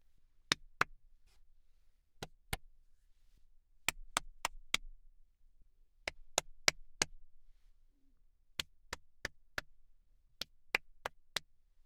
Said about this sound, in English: Now I'll do some clapping around the booth.